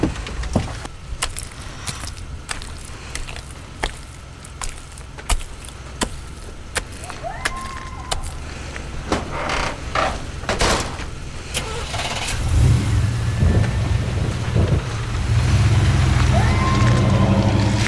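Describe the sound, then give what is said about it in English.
Sharp clicks and a thud of a pickup truck door, then an engine starts and rumbles steadily louder as the pickup truck pulls away down a driveway, with no one speaking. “Then she's back in the pickup truck, headed down the drive.”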